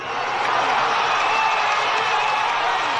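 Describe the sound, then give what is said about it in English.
A huge crowd at a rally in Caracas, Venezuela, addressed by Juan Guaido, roars and cheers steadily, a dense, unbroken wash of voices at constant loudness for a few seconds, with no single speaker standing out. “He was speaking to a massive crowd in the capital, Caracas, yesterday.”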